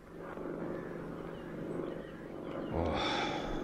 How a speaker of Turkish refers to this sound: Oh. Hele şükür. Uçak vaktinde geliyor. Sesi kulağa çok güzel geliyor ama başına geleceği bir bilse. Ah, bakın. Pencereden görülüyor. Ağaçlığın üstünden uçuyor şimdi.